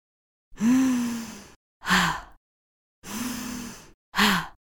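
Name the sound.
heavy breathing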